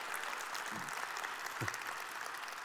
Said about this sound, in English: Would you welcome them in by way of applause?